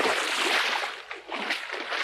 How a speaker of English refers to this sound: With all the splashing they made, the silver reflection of the moon in the bottom of the mill pond broke into 1,000 pieces and melted away.